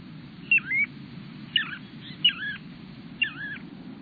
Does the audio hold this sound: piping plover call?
yes